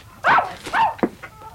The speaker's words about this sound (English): All these beastly curs of mine.